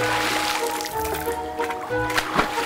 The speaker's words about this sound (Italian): I famelici esseri si tuffarono immediatamente nel mare vicino alla scuola e si pietrificarono all'istante.